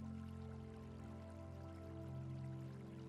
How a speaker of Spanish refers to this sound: Hay una bonita fuente de piedra que emana agua, emitiendo un sonido muy agradable y relajante.